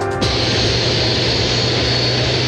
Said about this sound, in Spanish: Así es, efectivamente, la imagen en directo a través de Bio Bio TV da cuenta de este jet privado de la República de Panamá, porque hace instantes acaba de aterrizar acá en la losa de la terminal aérea de Santiago el presidente de este país,